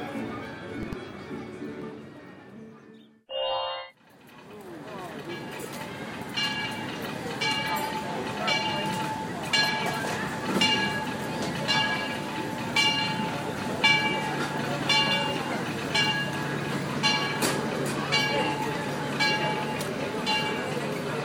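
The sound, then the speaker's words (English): A Disneyland Railroad train sits at the busy New Orleans Square station at Disneyland, rumbling steadily with regular clanking beats and a brief sharp hiss early on, while people murmur in the background. “We're at the New Orleans Square station of the Disneyland Railroad.”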